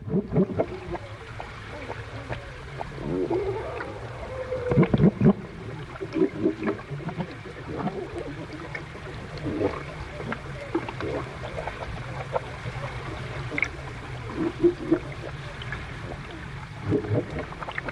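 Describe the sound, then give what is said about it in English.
Underwater seal calls recorded by hydrophone, low moaning sweeps that rise and fall every few seconds, heard through a steady watery rumble dotted with faint clicks and crackles. “But the range of vocalizations and sounds that I've heard underneath the water, which it was just amazing.”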